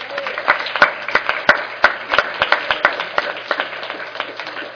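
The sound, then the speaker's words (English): An audience applauds steadily for a task force's work on a guide, with many hands clapping in a dense, crackling wash and sharper individual claps standing out. The applause stays fairly even in loudness throughout. “Let's give them a big round of applause for their work.”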